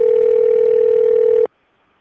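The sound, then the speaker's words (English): A steady, loud telephone dial tone hums without change for about a second and a half, then cuts off abruptly into near silence. No voices are heard. “I'll try him on his other number.”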